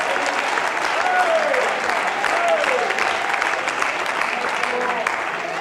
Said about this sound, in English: Oh, could you clap your hands and thank the Lord? Oh, hallelujah.